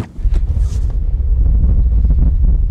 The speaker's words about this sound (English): There's a sandstorm. I'm not talking a little bit of sand. There are 45 mile an hour gusts. I'm gonna open the door real quick.